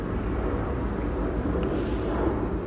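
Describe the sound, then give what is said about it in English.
A steady, heavy engine rumble from a low-flying airplane passing overhead, droning at an even, fairly loud level with no voices. “geez, that airplane's flying low.”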